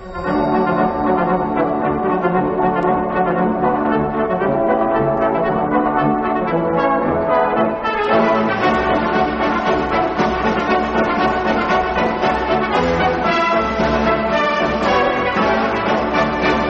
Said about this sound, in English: It was the Radetzky March.